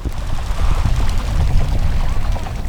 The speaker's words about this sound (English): And then, hundreds of birds lift off the water and take flight. That was sort of impressive.